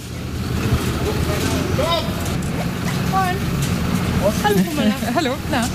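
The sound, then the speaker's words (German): A steady, heavy engine rumble as large trucks carrying Christmas market stalls roll slowly into the pedestrian zone of Lübeck's historic old town shortly after 7 pm on a bitterly cold, wet, dark evening, with faint voices and a few higher tonal squeals rising over the low drone toward the end. “Um kurz nach 19 Uhr rollen die LKW mit den Weihnachtsmarktbuden in die Fußgängerzone.”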